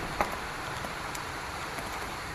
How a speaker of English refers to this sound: As you can tell, it's raining and not even severely thundering. A few rumbles here and there.